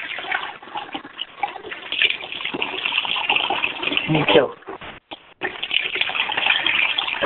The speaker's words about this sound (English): I was washing my face.